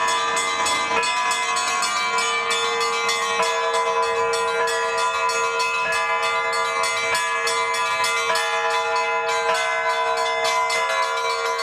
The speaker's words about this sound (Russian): Мы долго ждали, чтобы на нашем приходе появились колокола. Усердием раба Божия Сергея Михайловича Богомолова были приобретены колокола в городе Воронеже, в литейной мастерской подорожных.